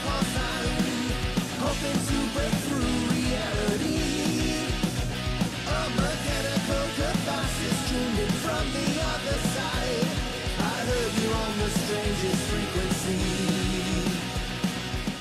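A loud, dense stretch of rock music with no singing: driving drums and distorted guitars fill the whole passage at a steady, unbroken level for about fifteen seconds.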